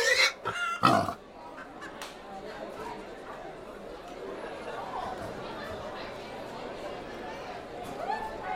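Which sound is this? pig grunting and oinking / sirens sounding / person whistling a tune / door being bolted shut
pig grunting and oinking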